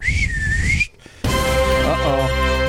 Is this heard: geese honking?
no